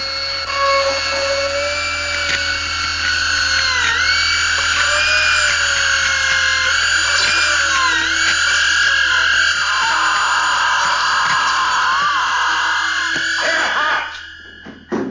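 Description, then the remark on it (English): A dental drill whirs with a steady high-pitched whine as it drills into a healthy tooth, its pitch dipping and rising now and then as it runs continuously, then cuts off near the end. “So, I'll just drill into a healthy tooth until I reach the pulse.”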